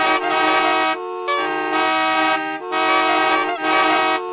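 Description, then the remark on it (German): Loud, brassy honking tones blare in a few sustained blasts with short breaks between, a playful novelty horn instrument called the Hupupe tooting a simple pattern, with no voices. “Auf Platz 4 wartet nämlich die Hupupe vom noch nicht verkehrsberuhigten Planeten Möp Möp.”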